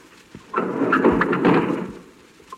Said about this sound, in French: Bruit des portes du wagon qui se ferment sur un chargement d'humains.